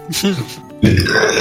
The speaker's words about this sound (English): Yes! Burping sensually on nipples is my kink.